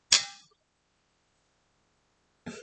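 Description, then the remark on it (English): Two metallic clinks of thermal cups knocking together in a toast, a bright ringing tap that fades over about half a second, then a second shorter clink after a pause of two seconds, fairly loud. “We're using our thermal cups.”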